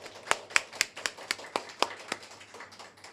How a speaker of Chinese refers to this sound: 我们给点掌声我们的神帝。